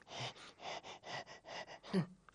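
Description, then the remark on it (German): A voice imitates a broken printer laboring as it prints: a steady run of about seven breathy, wheezing puffs, ending in a louder, strained groan. No words are spoken. “Dann ist der Drucker kaputt. Und weil der Panda die Liste so dringend braucht, gibt sich der Drucker total viel Mühe und ächzt und schnauft beim Drucken.”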